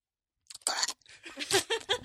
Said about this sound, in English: Here's my first-hand experience with this gum. It's good for, like, one second. As I chew it. Flavor explodes in my mouth. Mm-hmm. But now it's gone. Exactly. Wait a minute. Am I chewing rubber?